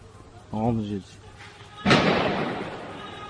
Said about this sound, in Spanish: 10 minutos de disparos, 12 muertos, entre ellos un director y 3 dibujantes. Une arme automatique.